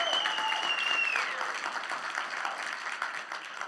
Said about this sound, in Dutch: Wij even klappen voor Pieter en dat hij het hoort.